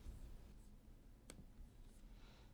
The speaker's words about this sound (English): Hey? Hey? Hey? She snaps her fingers and then waves her hands. You still here with me?